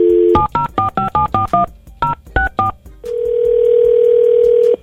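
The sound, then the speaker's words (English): A phone number being dialed on the radio station Praise 100.9 to get someone on the phone: a quick string of about nine loud touch-tone beeps with a short pause partway, then a steady continuous phone tone that runs to the end. No talking. “Let's see if we can get her on the phone.”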